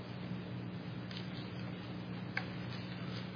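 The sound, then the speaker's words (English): Faint, irregular clock ticks click now and then over a steady low hum and room hiss, with one slightly sharper tick standing out midway. No one speaks. “Nice clock.”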